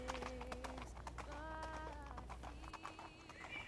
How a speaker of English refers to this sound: So Angel jumped back on her horse and rode into the setting sun, listening to Rapunzel's lovely music until it faded into the night sky.